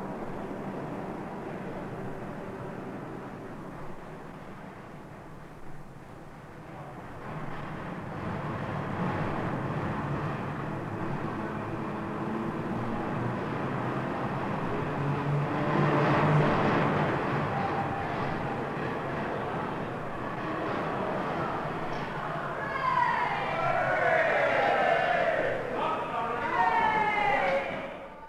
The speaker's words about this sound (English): Then, at 12:25 a.m... Here comes the last northbound 35 car through the subway, arriving at Aldwych Station, car number 185. Packed at capacity, and quite a large crowd on the platform seeing it off.